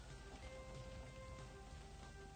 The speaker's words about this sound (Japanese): そう、さっきからね雨が降り出したんですよ。